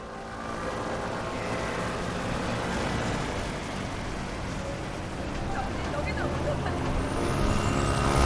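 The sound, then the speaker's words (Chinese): A dense rumble of waiting motorcycles and cars builds steadily as traffic surges forward across the Yeongdo Bridge, a six-lane opening bridge just lowered back into place after ships passed beneath. The roar swells louder toward the end with a murmur of voices beneath. “桥上即将重启通行，这时候在前方等候的摩托车和汽车一窝蜂地向前拥去。”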